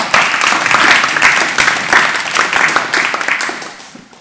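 An audience applauds in a dense, steady wash of many overlapping claps, loud throughout and tapering off slightly toward the end, with no talking.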